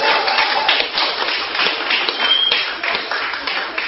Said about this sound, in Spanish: Un aplauso para el Señor porque terminamos.